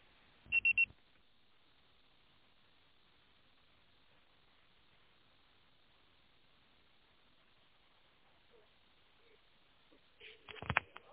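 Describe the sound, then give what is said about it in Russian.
A short, sharp voicemail beep tone sounds once near the start, after an unanswered phone call is forwarded to voicemail, followed by a long stretch of faint telephone-line hiss and a brief muffled clatter at the very end. “Ваш звонок был переадресован на голосовой почтовый ящик. Можете оставить сообщение после сигнала.”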